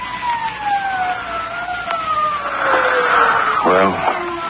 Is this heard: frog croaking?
no